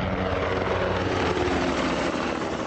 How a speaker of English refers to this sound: U.S. helicopters periodically roar overhead at Baghdad's trendy Karada district,